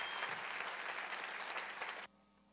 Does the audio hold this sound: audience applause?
yes